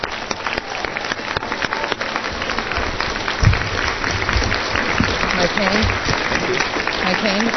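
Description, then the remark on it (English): Sustained applause from a sizable audience at an awards event, for all of the 2001 award recipients; a dense steady patter of many hands clapping at once, fairly loud and continuous throughout with no talking over it. “Let's give one big round of applause to all of the 2001 award recipients.”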